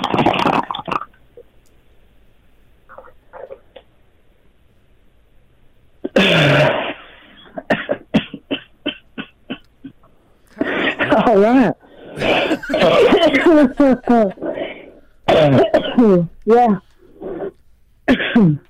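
A woman's loud bout of harsh coughing that turns into wheezy, honking bursts like a donkey's bray, coming in rapid repeated fits with short gaps between them.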